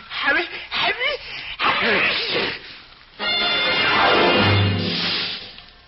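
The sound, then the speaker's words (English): A voice acts out a sneeze in a story, the character Johnny sneezing beside a huge pixie's ear: a few wavering, rising "ah" build-up sounds, then a loud, drawn-out, breathy burst that fades over about two seconds. “The huge pixie reached out in the direction of the sneeze, and because his arm was so long, he grabbed Johnny before he could move.”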